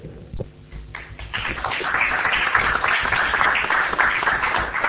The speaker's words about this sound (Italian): Non ho capito se l'applauso era per l'assessore Pellizzero oppure per gli uffici che si impegnano in questa sfida costante giorno per giorno.